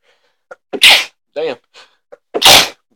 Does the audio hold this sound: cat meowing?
no